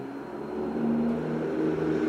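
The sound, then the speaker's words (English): A loud truck drives by with a steady, rising engine rumble and droning hum that swells and holds for a couple of seconds, continuous. “Loud truck driving by.”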